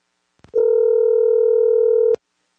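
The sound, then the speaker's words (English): A phone call to a father ringing out on a phone: one loud, steady electronic ring tone holds for about a second and a half after a soft click, then stops abruptly. No one speaks. “Okay, we're about to call my dad, Baba, on my phone.”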